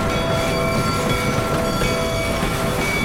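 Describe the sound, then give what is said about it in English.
A train rumbles loud and steady, with a sustained metallic squeal ringing over the heavy low clatter as it rolls slowly into a station. No one speaks. “Now he was lying in the light of the train, which was pulling into the station no more than 50 yards behind him.”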